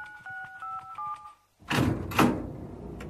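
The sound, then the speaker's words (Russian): A quick run of electronic keypad beeps as an access code is entered to open a door, then a short pause before a loud mechanical clunk and a whooshing rumble as a heavy door slides open. “открой нам эту дверь, ведь только у тебя есть код доступа.”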